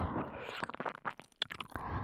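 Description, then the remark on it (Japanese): Soft, wet ear-licking sounds: a quick run of moist clicks and smacks in the middle, framed by a steady breathy hiss, all quiet and intimate with no talking. “もっと気持ちいい舐め方にしてあげます。”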